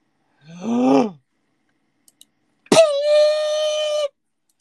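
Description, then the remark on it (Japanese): A person sneezes once: a short voiced wind-up, a brief pause with faint clicks, then a sharp explosive burst that trails into a long, steady, voiced tail. No talking. “くしゃみ出る。”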